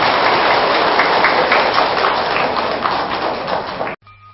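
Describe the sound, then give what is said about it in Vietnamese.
A big round of applause from a crowd, given as a pledge of commitment to proposals drawn from Buddhist thought for Agent Orange victims: dense, loud clapping that holds steady for about four seconds, then cuts off abruptly into near silence. “thân nhân của những nạn nhân chất độc da cam thấy rằng là những điều đề nghị từ tư tưởng Phật giáo mà chúng tôi vừa chia sẻ là có thể thực hiện được, xin quý vị hãy dành một tràng vỗ tay thật lớn để cam kết làm.”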